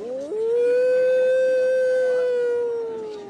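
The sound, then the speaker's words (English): A wolf advocate demonstrating outside a meeting in Albuquerque imitates a wolf, giving one long, steady howl that rises briefly at the start, then holds a sustained tone for about three seconds before fading slightly. Loud, with no other voices. “That is not a wolf. It's a wolf advocate demonstrating outside a recent meeting in Albuquerque.”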